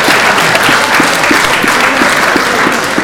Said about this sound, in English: Yourselves a round of applause.